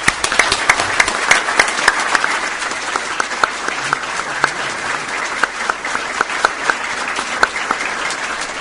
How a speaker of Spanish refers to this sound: Así que les pido un fuerte aplauso para ellos y muchísimas gracias.